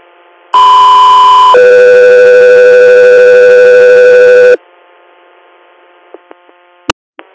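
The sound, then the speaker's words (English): A loud two-tone radio dispatch alert for the unit Echo 3: a steady higher tone for about a second, then a longer lower tone for three seconds, leaving a low radio hum with a few sharp clicks. “Echo 3, are you standby for tone?”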